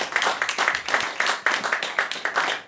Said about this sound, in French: T'applaudis pour les non-voyants, mais je vois, moi.